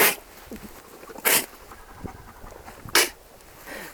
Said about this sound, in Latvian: Lamām ir vēl kāds tā teikt ierocis, un tas ir spļāviens.